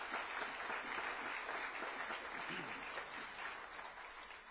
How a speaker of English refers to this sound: And so at this time, if I could have the parents of all the eighth grade graduates, if you'll please stand, we'd like to just recognize those who are eighth grade parents. Give them a round of applause this evening. Thank you all.